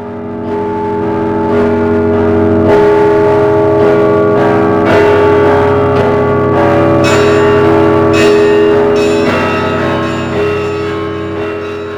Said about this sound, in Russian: Звонят колокола на светлый каждый день, и только главные слова звучат из деревень.